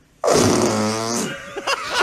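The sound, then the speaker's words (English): A loud fart-like noise lasting over a second, made by a baby, with a buzzy sputter that trails off into a few short blurts. “You know, in middle school, where you used to like make the fart noises by putting your mouth, your hands on your back mouth and go.”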